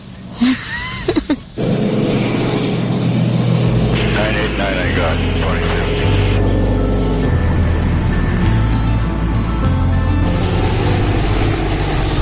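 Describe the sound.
A small airplane engine drones steadily and loudly from inside the cockpit on a flight toward Hay River, at about 1,900 feet, a constant low hum filling the whole recording while a brief exchange of speech cuts in over it.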